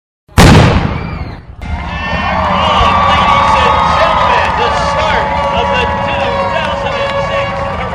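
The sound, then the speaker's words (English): A sudden loud bang or blast opens the start of a big marathon, then a large crowd of thousands of runners erupts into sustained shouting and cheering, many voices overlapping in a steady roar that keeps going to the end. “There is a lot of shouting at the start of the race.”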